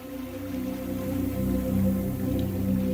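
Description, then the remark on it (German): Soft, steady water sounds, calm morning water with only light waves gently lapping and dripping against rocks, with a continuous low hum underneath, calm and unhurried with no voices. “Oder das Wasser plätschern?”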